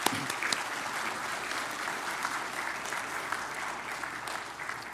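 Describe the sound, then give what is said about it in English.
An audience claps steadily for a newly baptized person, a dense, continuous wash of many hands that holds at an even level throughout, with no voices standing out. “let's go ahead and give him a round of applause.”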